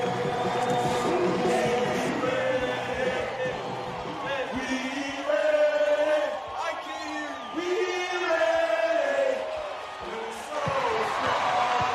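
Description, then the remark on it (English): A packed basketball arena in Akron roars continuously with a capacity crowd at a night game between St. V's and Massillon, a dense wall of cheering with loud shouts and whoops rising above it, plus occasional sharp thuds from the court. “It's a capacity crowd here tonight in Akron. This place is bursting at the seams as defending state champion St.”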